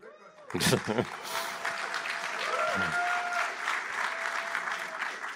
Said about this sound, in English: I think that was actually sincere applause for you.